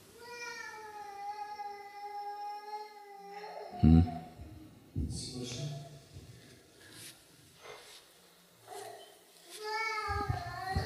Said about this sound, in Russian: И ребенок, плачущий в зале.